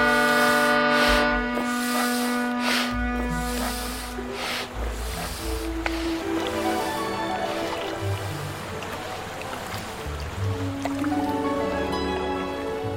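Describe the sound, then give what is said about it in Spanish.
A loud, droning horn honks in long sustained blasts that shift pitch, while squishy, wet pumping noises run underneath as an inflatable boat is blown up. “Vale, pues venga, vete dándole a la bocina, que yo mientras lo hincho y zarpamos, pero ya.”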